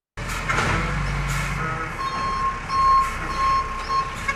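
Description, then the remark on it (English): A rubbish truck empties recycling bins on an Australian street, its engine droning low while steady reversing beeps pulse repeatedly and a hiss of air brakes bursts out, with clattering as bins are emptied. “Rubbish trucks emptying recycling bins have been a feature on Australian streets since the 1980s.”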